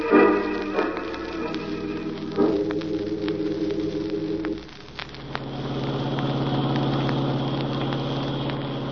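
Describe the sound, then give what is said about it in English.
A car engine drones steadily throughout as the car drives around a mountain, its low humming tone shifting pitch a couple of times as if changing speed, with a continuous rumble and no voices. “We're losing time driving around this mountain.”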